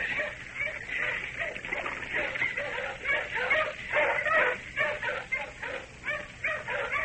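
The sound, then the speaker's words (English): A pack of tracking dogs barks, yips and whines in a steady, overlapping stream while tracking people down, sounding muffled, with faint splashing underneath. “Dogs. The chap's using dogs to track us down.”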